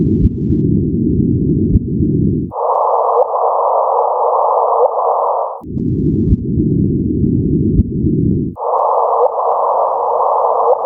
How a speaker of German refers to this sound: Mittlerweile habe ich dann auch das Soundfile gefunden, über das wir geredet haben. Wenn zwei schwarze Löcher miteinander kollidieren, dann klingt das so.